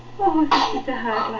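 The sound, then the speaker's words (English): A single sharp sneeze bursts out in the middle of someone talking, loud and brief, with the voice continuing right after. “Bless you.”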